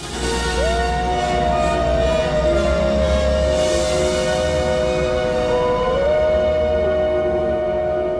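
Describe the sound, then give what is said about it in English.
Long, drawn-out wolf howls, two voices overlapping in sustained rising and falling tones, carrying steadily over a constant low rumble of wind-like noise with no one talking. “The white wolf answers the call.”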